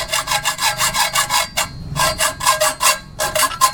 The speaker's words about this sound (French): En plein centre de Dédougou, dans un atelier de soudure, Diane découpe avec une scie une longue barre de fer qu'elle a pris le soin de mesurer avant. Avec la barre qu'elle a coupée, la jeune fille va faire un assemblage pour une grille de fenêtre.